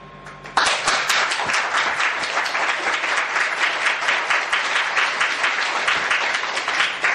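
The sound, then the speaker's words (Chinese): Sustained applause from an audience, many hands clapping in a dense, steady wash that starts abruptly and stays loud for several seconds without letting up. “你要鼓掌呢，你就鼓一下呢，你不能看大家不跟上嘛，你就停下来。”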